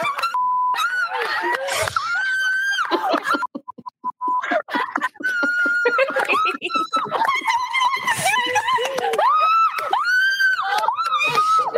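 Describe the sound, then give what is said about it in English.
A single voice launches into a loud, strained tirade of shrieks and garbled yelling, mimicking screaming and swearing in bursts with a brief dip near the middle before ranting on. “It's hard to differentiate the swearing from the screams.”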